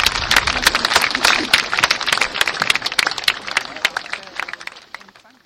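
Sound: audience applause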